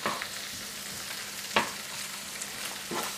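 Steady, crackling sizzle of mushrooms and rice frying in a pan, a broad hiss with a few sharper clicks and pops, including one louder snap midway, and no talking.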